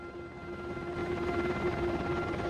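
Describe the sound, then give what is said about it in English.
A helicopter cruising past a mountainside produces a steady, continuous droning roar with a constant engine hum. It stays loud and even throughout, with no voices. “The chopper cruises past a mountainside.”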